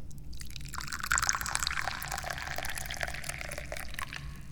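Da Hong Pao tea being poured in a steady, continuous stream, a splashing trickle that starts after a brief pause and runs to the end. No one speaks.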